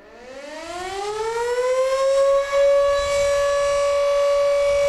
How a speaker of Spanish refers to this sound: Si había algún problema dentro de la mina, un accidente o algo, le daban a la sirena. Haz este ruido, escucha.